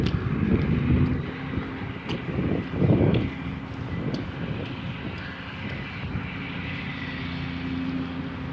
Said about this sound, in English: There's a yard crew working on the plantings along the fence line here. There's a mower, at least one guy with a leaf blower.